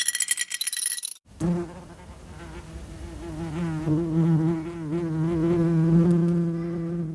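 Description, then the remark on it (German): A brief metallic clinking opens, then a bumblebee or wasp buzzes loudly, a steady droning hum whose pitch wavers and rises as it keeps going without pause. “Jetzt ist er auch wieder am Sägen. Gestern gab es hier einen Wespenkampf”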